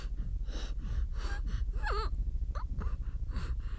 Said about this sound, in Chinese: 那不如就更多急促的呼吸吧，让喘息把你的大脑也变成性器官吧。